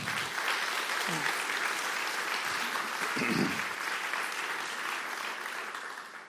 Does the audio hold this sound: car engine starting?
no